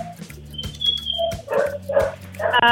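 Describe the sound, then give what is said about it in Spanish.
A small dog on a phone call barks several times in quick, irregular bursts, sounding thin and boxy through the phone speaker, with a faint background hum and no talking. “¡Es un perrito en el teléfono! ¡Ya tu perrito me asustó al gato!”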